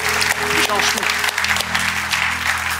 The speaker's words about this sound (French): S'il y a une église qui le croit, est-ce qu'on pourrait applaudir notre Dieu ici ce matin?